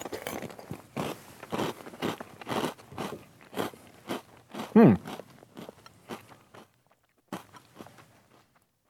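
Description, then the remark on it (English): Wet crunching and chewing of Reese's Puffs Cluster Crunch cereal clusters, coated in a sugary chocolate and peanut butter coating, a steady run of bites and munches that fades into quieter chewing with a few sharp crunches near the end. “Let me give this a whirl. Again, Reese's Puffs Cluster Crunch.”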